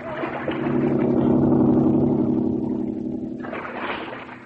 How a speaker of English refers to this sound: that driverless boat, it's heading toward us again.